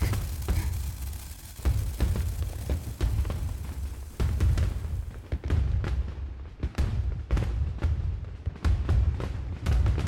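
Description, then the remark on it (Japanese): Repeated deep booms of fireworks going off, arriving irregularly every second or so with a low rumbling roll between bursts and no voices. “花火、ここからでも見えるんだね。”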